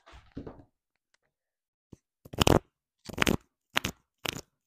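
Playing cards being shuffled: four brisk, crackly riffling bursts in an uneven rhythm, each a rough papery rush, following a brief murmur and a short silence.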